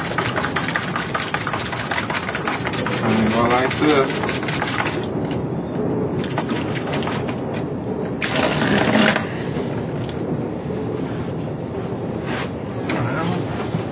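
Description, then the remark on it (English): Steady running tap water with a toothbrush being rinsed under it, the flow swelling into louder splashy bursts near the end, with a faint voice at times. “Since you don't want to waste water, you always have to wash the toothbrush.”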